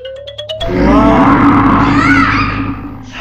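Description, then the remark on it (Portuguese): A child's voice imitates a bear, letting out a loud, strained growl that holds for a couple of seconds just after a brief rising whine. The growl is raspy. “Tu dizes que eras um urso. Mas vocês assustaram-se.”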